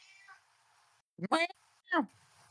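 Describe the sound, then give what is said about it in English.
A cat meows twice in quick succession, loud, with bright harmonic cries rising then falling, over a faint steady background hiss. “Somebody just dropped a cat meow in the background.”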